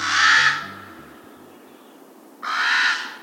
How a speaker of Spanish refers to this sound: El cuervo común es el pájaro cantor más grande, y su voz corresponde a su tamaño.